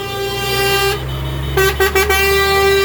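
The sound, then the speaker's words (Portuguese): A loud, sustained truck air horn blares as the truck passes a street demonstration in Brazil, broken by a few quick stuttering blasts toward the end, over steady low engine rumble and road noise; vehicles honk in support of the protest. “É no momento que passa aqui o caminhão, né? E há um aceno popular aqui natural, alguns veículos acenam em apoio à manifestação.”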